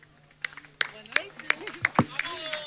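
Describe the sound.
Scattered audience applause at a fado night: a handful of sharp, uneven claps ring out one after another, moderately loud, while voices murmur and speak underneath.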